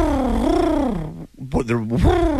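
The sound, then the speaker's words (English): A person imitates the cooing an animal made at them in the morning, which sounded like a pigeon, with a warbling, voiced sound that rises and falls in pitch, split into two phrases by a brief pause. “But it was like a... Almost like a cooing.”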